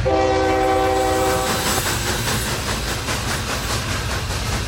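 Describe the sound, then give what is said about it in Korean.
A Trans-Siberian train in the early-1930s Soviet Union rumbles steadily along the rails, loud, with a horn blaring at the start before fading into a continuous low rolling roar of wheels. “버크화이트는 첫 번째 소련 여행에서 시베리아 횡단 열차를 탔습니다.”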